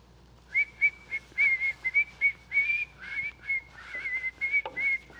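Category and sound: person whistling a tune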